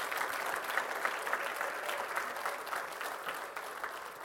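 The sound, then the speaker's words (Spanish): An audience gives a loud round of applause to Christ, clapping steadily in a dense, sustained wash that holds at an even level for several seconds, with no voices standing out. “Pero denle un fuerte aplauso a Cristo.”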